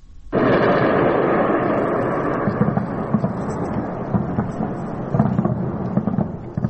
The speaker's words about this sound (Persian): خب تا حدود ساعت 5 صبح رسانه‌های ایران از وقوع چندین انفجار خبر دادن که علاوه بر تهران پایگاه‌های نظامی اطرافش و چند شهر دیگر رو هم به نوشته این رسانه‌ها تحت تاثیر قرار داده بود.